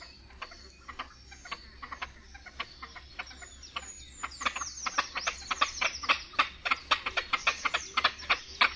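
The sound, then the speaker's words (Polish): Rhythmic, rapid cackling calls of two male great crested grebes in a conflict, one bird calling steadily before the second joins in, the pulses growing louder and denser as the two overlap, with no talking. “Do rytmicznego gdakania jednego osobnika po chwili włącza się drugi.”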